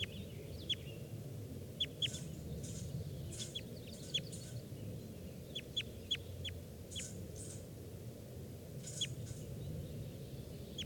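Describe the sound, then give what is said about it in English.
A perched wild bird calls with short, sharp, high chirps in irregular clusters over a steady low outdoor rumble. No voices. “Bird came down and he's perched right next to 421. Who's calling there?”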